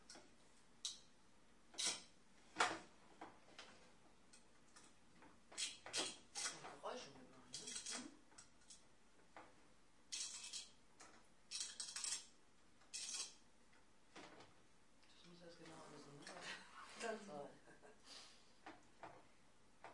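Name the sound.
frying pan being handled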